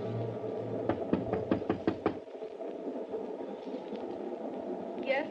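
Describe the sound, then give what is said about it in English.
A rapid series of about seven sharp knocks on a train compartment door, loud, over a steady low rumble of the moving train that continues after the knocking stops. “Open up or I'll break the door in.”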